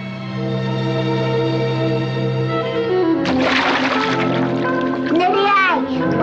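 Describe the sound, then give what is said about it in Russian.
Sea water splashes and churns for the second half, a steady wash of noise, while a child-like voice and sustained tones carry on throughout. “Поплаваем. Да ты что, вода холодная?”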